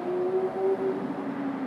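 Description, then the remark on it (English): A car speeds by outside, its engine humming steadily, its tone easing slightly lower toward the end. The sound is moderately loud, with no voices present. “So, did you just trance out of something to listen to that car speed by?”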